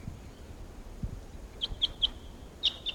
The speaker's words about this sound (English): Now, at 7:13 a.m. on October 13th, and a flock of about 8 type 6s are here at Barfoot Park, calling to the decoys. And these are the wild birds. Wild. Wild and decoys.